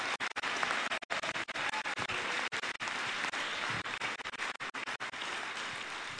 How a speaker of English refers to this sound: Come on, if you receive that, clap those hands again and give that God a mighty shout.